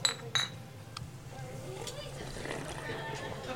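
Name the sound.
highball glasses clinking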